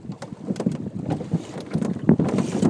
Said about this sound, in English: There you go. A little bit of a gust. That's interesting.